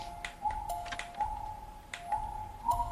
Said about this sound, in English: Now, that click you heard was a door. I can press Y, and the door has opened, and now I am somewhere else.